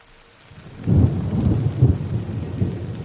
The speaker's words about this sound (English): It's a cold, drizzly December morning on Larch Mountain, the highest freestanding peak in Clark County, Washington, which on clear days boasts stunning views of nearby Mount St. Helens.